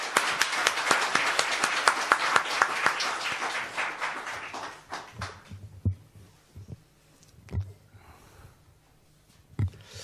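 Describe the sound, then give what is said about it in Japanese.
An audience bursts into loud, dense applause that holds steady for about five seconds, then quickly thins out to a few scattered claps and soft thumps. “じゃあもう一度大きな拍手をお願いします。”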